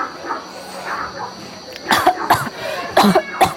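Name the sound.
coughing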